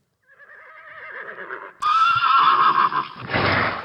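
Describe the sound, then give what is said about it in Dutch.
A horse neighs loudly, a long quavering whinny that starts softer and swells into a strong, shrill cry before ending in a breathy snort. “Het paardengeluidje.”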